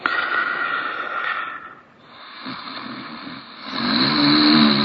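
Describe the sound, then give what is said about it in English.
Loud, rough snoring with a rattling, buzzing tone that drops into a brief lull, then swells back louder. No one speaks. “Loud snoring can be a problem, and not just for other people trying to sleep with the noise.”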